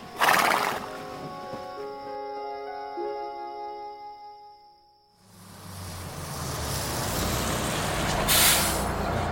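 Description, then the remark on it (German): A small grey pony with a shaggy winter coat and a tousled mane lets out a long, shrill whinny that wavers and slides downward over several seconds, then gives way to a steady, rough bed of noise that may carry hoof clops. “war wieder ein kleines graues Pony mit struppigem Winterfell und zerzauster Mähne.”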